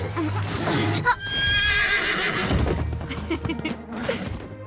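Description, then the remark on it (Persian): A horse lets out a loud, wavering neigh that starts high and slides downward over a couple of seconds, set against a steady low rumble and scattered shuffling noise. “پسرا من این اسبه رو میخوام.”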